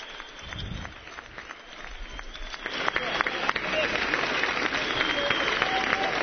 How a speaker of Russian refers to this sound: Аплодисменты США, американской группе.